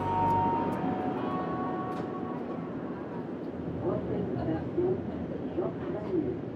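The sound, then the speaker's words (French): Riding inside a metro train in Montreal: a steady, loud rumble of wheels and motor with a thin electric whine early on, and indistinct voices murmuring in the background. “J'ai donc laissé mon auto dans l'est de la ville et je me suis pris une passe de métro.”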